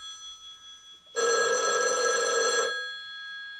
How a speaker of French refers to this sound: Il va se coucher. Son téléphone sonne.